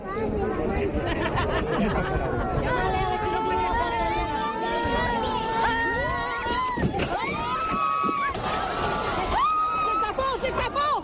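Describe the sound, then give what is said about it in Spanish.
A crowd screams and shrieks in panic at the Toro de la Vega bull run after the bull charged a barrier, lifted it and escaped the route: many high, strained voices overlapping in a loud, continuous wave of cries that rise and fall for several seconds. “Gritos de pánico después de que el Toro de la Vega arremetiera contra una talanquera, la levantara y se escapara del recorrido.”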